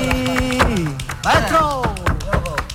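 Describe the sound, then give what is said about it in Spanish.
Sharp finger taps and hand beats on a tabletop, along with the feet, beat out an uneven flamenco rhythm in the style of early, primitive flamenco, crisp, while a voice sings a wavering melody over them. “Estamos escuchando los palillos con los dedos, las manos en la mesa, los pies.”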